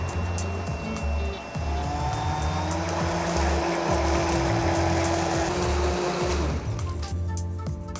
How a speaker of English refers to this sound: Another option for removing lumps is to just blend them out. You can use a countertop blender or an immersion blender. Let's see how well this works. Should be pretty good.